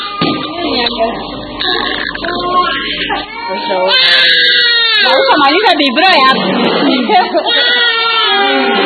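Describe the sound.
An infant cries loudly and insistently at the Oshingea house, a care home for children with cots for infants, wailing in rising and falling bursts that grow more intense after a few seconds, with other voices and room noise mixed in around it.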